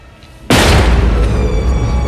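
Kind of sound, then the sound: impact, door being kicked open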